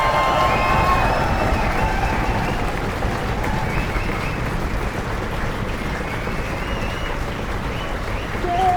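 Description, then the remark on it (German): An audience applauds steadily for several seconds, a dense, even wash of clapping with some cheering and a few brief whistles mixed in, staying loud throughout. “Und dieser Applaus hier, der ist für euch.”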